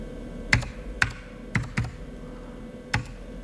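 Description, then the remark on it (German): Five separate clacks of computer keyboard keys at an uneven pace as a name is typed into a military computer game, each one crisp and sharp over a low, steady background hum. Nobody speaks. “Na, ich muss Escape machen.”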